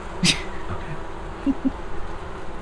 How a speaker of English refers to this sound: You hear muffled sounds, yelling, and then you hear the swarm increasing.